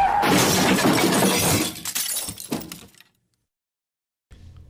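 A truck crashes: a loud crash with glass shattering, a dense burst of breaking and debris that trails off into scattered clinks over about three seconds, followed by silence and then faint low rumbling.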